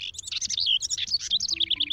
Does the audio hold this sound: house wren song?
yes